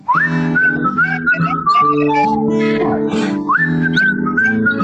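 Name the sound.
person whistling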